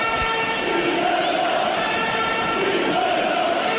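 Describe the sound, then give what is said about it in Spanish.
A large crowd of fans in the sports hall in Tudela, during a match that stands at 1-8, chants "Rivera" together in a steady, loud, sustained roar, voices rising and falling in unison over a dense wash of cheering, with no single speaker standing out. “O sea, lo mejor de todo, la afición, que aún no había acabado el partido y seguía animando a rabiar con gritos de Rivera, como estos.”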